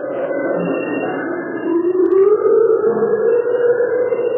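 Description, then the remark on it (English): Eerie, wavering atonal drones slide and moan in a low-to-mid register, with a slow rising swell midway and a steady, loud, unsettling texture throughout, no voices present. It is the backing of the Wandering Soul Tape, a Vietnam War psychological warfare recording played from boats going up rivers to flush the Viet Cong out of the jungles. “And it was backed by these sort of creepy atonal sounds.”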